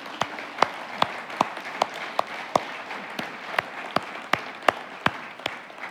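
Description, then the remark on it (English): An audience applauds steadily, a dense wash of clapping punctuated by sharp, evenly spaced individual claps that stand out above the rest, at moderate volume with no voices, giving a round of applause to people who work at a school. “Yeah, let's just give these guys a round of applause.”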